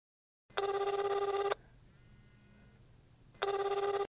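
A telephone rings loudly: one long electronic ring, a pause of about two seconds, then a second ring starts. Nobody speaks.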